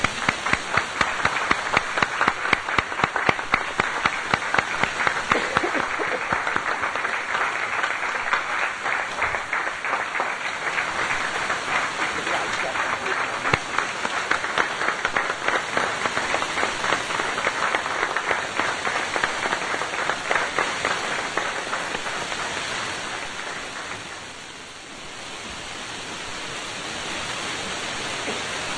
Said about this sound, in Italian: Lancio io l'applauso, dai.